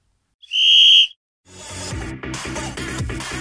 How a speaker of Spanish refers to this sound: Colegiado, no perdamos más tiempo y haga sonar el silbato.